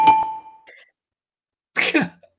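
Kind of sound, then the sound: signal or alarm, game show buzzer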